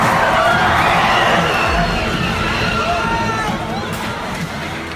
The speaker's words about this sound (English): James Alex Fields deliberately plunges his car into the crowd of anti-fascist protesters